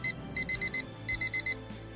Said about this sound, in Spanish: El agradable despertador que suena antes de lo que ha hecho durante las vacaciones.